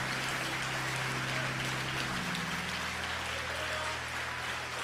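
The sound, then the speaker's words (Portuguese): An audience applauds the Lord, giving glory to God, in a steady, dense roar of clapping that lasts throughout, with a low sustained keyboard chord underneath that shifts pitch partway through. “Se você puder levantar do teu lugar, levanta, dá um aplauso ao Senhor, dá um glória a Deus”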